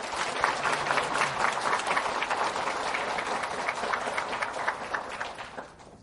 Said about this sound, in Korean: 하나님께 먼저 우리 감사와 찬송의 박수를 올려드릴까요? 또한 우리가 은혜롭게 예배드릴 수 있도록 보이는 곳에서 또 보이지 않는 곳에서 수고와 섬김을 다한 여러 봉사자들을 위해서도 우리 박수를 쳐드릴까요?